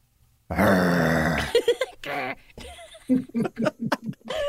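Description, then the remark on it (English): A voice imitates a big dog growling, starting with one long, loud, throaty rumble, then a run of shorter gruff bursts and grunts. “I was looking at the big dog.”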